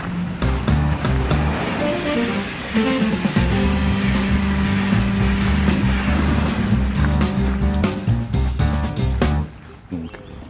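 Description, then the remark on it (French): An SNCF intercity train rushes past by the tracks with a loud, steady roar of rumbling wheels and motor whine, holding strong for about nine seconds before quickly dropping away at the end. “Là sur le bord des voies, on vient de voir passer effectivement des trains intercités que vous conduisez depuis une dizaine d'années.”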